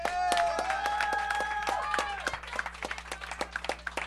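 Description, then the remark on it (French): A short burst of audience applause on a show, given because the regular host is absent and replaced. It is dense at first with a few whistles or cheers over it, then thins into scattered individual claps that fade out. “Alors, un petit applaudissement parce que Godette n'est pas là.”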